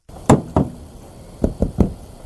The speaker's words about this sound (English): what you can hear is the cop, this is from the cop cam, you hear the cop bang on the cop door, or I'm sorry, on the car door to announce his arrival